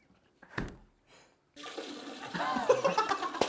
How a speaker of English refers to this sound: It sounds like he's pissing in your fucking ear.